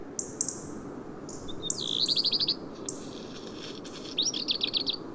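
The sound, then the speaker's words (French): A group of small birds in the hollow of a rock on mountain summits in winter twitter and chirp in short bursts, with quick trilling runs of high notes, over a soft steady background hush; no voices. “Il y a tout un groupe de petits oiseaux dans le creux d'une roche. Même s'ils ne chantent pas beaucoup en hiver, quelques gazouillements résonnent dans le silence de ces sommets.”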